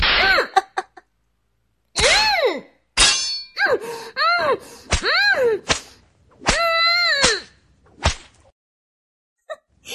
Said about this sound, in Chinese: 小贱人，啊，这鞭子抽得你爽不爽啊？我的七情六欲鞭可不是普通的鞭子啊，被鞭子抽打皮肤，就像摸了世间最烈的春药一样